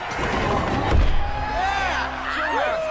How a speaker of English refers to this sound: Gobber steps into the tunnel and lowers a gate.